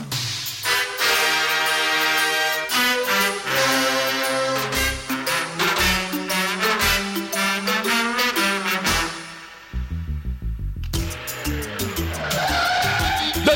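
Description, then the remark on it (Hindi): Tires squeal loudly as a car skids, a long sustained screech with wavering harmonic pitch, followed by a brief drop and then a rougher, noisier scraping skid. “अरे अरे अरे अरे, देख के चला भाई।”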